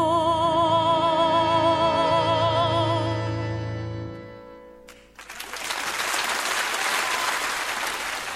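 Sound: concert audience applause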